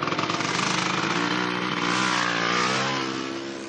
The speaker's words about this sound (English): Okay, Mike Vega knows his scooter sounds and looks sort of, well, sissy.